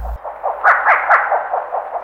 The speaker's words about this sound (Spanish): Este es el concón, una lechuza de tamaño mediano que mide aproximadamente 38 centímetros. Tiene la cabeza grande y redonda. Su coloración general es negro parduzco con barras transversales blanco-amarillentas.